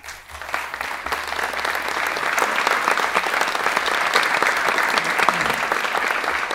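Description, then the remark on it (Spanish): A crowd breaks into sustained applause for the president, dense clapping that rises quickly in the first half second and then holds steady and loud for several seconds without any voices on top. “Ese aplauso, presidente, debe ser para darle la bienvenida a la tierra del buen sol y del buen vino.”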